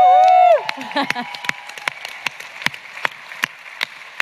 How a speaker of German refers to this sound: Ja, mach das noch einmal. Noch einmal Applaus, Sie haben es so lange nicht gehört.